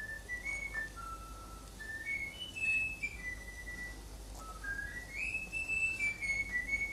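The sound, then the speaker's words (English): A bird whistles a learned tune in clear, pure tones, with sustained notes that slide and step up and down through a simple melody. It is fairly loud over a steady low hiss. “And now this is the bird singing it, whistling it.”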